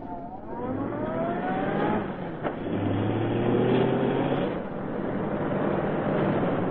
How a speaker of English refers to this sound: Never mind that. Get moving. Follow that car into the alley.